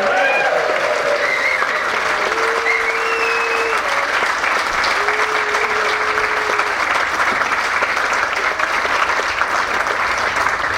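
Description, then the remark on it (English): A large festival audience claps steadily and loudly throughout, with scattered whoops and cheers rising above the dense applause, sending off a speaker who is leaving to catch a train. “Paul is having to run for a train, so send him out with a big cheer as we come back.”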